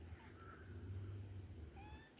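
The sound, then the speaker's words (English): A cat meowing at the ceiling gives two soft, drawn-out meows, the second rising in pitch, over a low steady hum. No one speaks. “Well, you're meowing at the ceiling again.”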